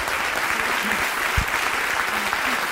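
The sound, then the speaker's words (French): Sustained, dense applause from a large audience giving a standing ovation for Audrey Pirot and Jérôme Niel, a steady wash of many hands clapping at constant loudness, with faint voices buried in the crowd noise. “Un triomphe. Une standing ovation.”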